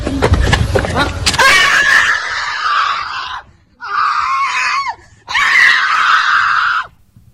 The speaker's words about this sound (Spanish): hemos escuchado ahora hace nada, escasos segundos, unos gritos de dolor muy duros